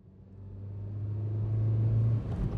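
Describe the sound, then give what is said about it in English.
A car carrying five people on their way to the mountains for the weekend drives along the road with a steady low engine hum and rumble that slowly grows louder, continuous, with no voices. “are sitting in the car. They are on their way to the mountains for the weekend.”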